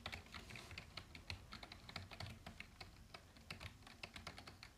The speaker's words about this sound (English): Let me demonstrate with my laptop keys if they're loud enough.